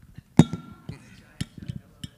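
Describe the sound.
A sharp glassy clink rings out with a sustained tone, followed by a few softer taps and knocks of a glass of water being handled as someone takes a drink, with faint voice-like murmuring underneath.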